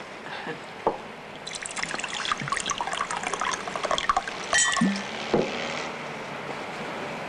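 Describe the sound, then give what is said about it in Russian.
Liquid is poured into glasses in a steady, fizzy trickle for a few seconds, with a couple of light clinks around it. It is moderately loud, and no one speaks. “Стаканами, значит? Ну, что ж, это тоже можно.”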